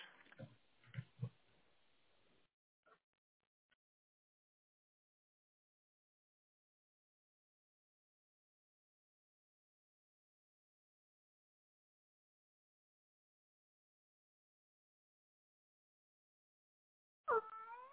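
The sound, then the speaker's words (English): An indoor cat standing next to a window lets out a loud, drawn-out meow, arriving suddenly after a long stretch of silence, with a few brief, low grunting noises near the very start. “He's just standing next to a window and just meowing really loud.”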